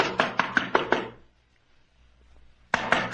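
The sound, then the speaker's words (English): Firm knocking on the wooden door of Carlos Sanchez's house, a quick run of about five raps, a short pause, then another burst of knocks. The hits are loud, with nothing else audible. “Don't I know how to beat on the door? No one's answered, have they?”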